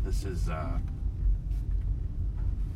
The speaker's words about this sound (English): I just got onto the freeway a little bit ago, and already this traffic right here.